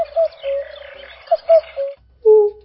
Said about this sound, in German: Wenn sie ganz aufgeregt sind, wenn das Weibchen sehr nahe kommt, dann singen sie manchmal drei Elemente, also Kuckuckuck, Kuckuckuck, so etwas.